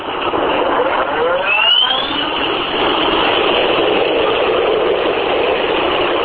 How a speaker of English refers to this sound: Several U.S. Army Chinook helicopters prepared early Sunday on the Iraq-Kuwait border for a mission deep inside Iraq.